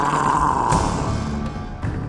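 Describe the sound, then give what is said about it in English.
A man growls menacingly at a guard on a fortress wall while pointing his staff, a low, rough, continuous rumble held for about two seconds at steady loudness, alone with no speech. “Sumulael pointed his staff at the guard and growled.”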